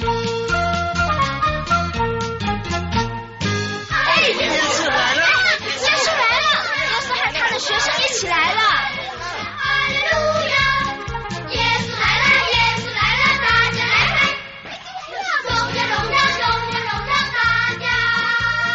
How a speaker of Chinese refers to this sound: 传来了一阵阵的欢呼声，还有人唱歌呢。